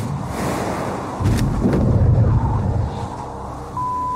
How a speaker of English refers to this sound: Parachute opens.